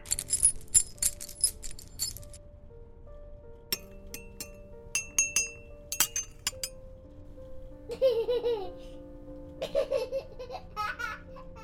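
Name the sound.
children playing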